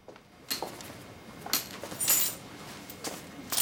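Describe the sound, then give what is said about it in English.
Car keys jangle in several short metallic bursts as they are taken from a jacket pocket in an office, with soft rustling in between and no voices. “She lets herself into Rick's office and finds his car keys in his jacket pocket.”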